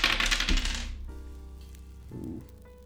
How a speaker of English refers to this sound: Oh, okay. I have to roll a d4.